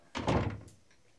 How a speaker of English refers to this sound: Three. Close the door, please.